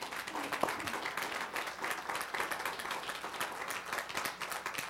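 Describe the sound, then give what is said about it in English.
An audience claps for the Lord in a dense, sustained burst of applause filling the whole stretch, many hands at once creating a steady, crackling wash of sound with no speech. “Come on, give the Lord a clap.”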